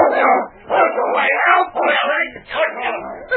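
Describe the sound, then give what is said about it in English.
A huge dog growls and snarls a few inches from a sleeping man's throat, loud and rough, in four back-to-back bursts with brief breaths between them. “He was awakened suddenly by a deep growl and opened his eyes to look into the snarling jaws of a huge dog a few inches from his throat.”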